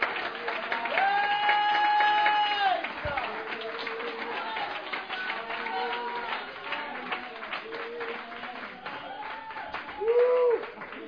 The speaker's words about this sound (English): Come on and give the Lord the best hand clap of praise you can give right now.